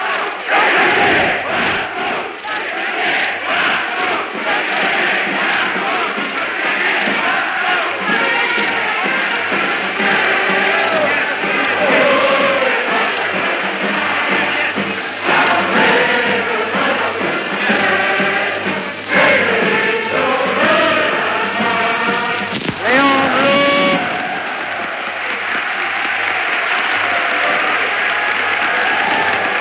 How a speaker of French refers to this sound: En mai 1936, la foule chante l'international et acclame Léon Blum, le socialiste Léon Blum.